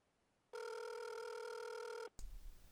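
A telephone rings once with a steady electronic tone lasting about a second and a half, then cuts off abruptly, followed by a brief clunk like a handset being picked up.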